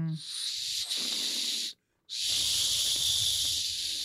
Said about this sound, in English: Okay, that's the maybe whistle. Maybe not 90% of the time, I guess.